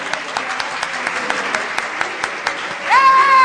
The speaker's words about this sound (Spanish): Por favor, pido un fuerte aplauso para el Puro El Trébol, por favor.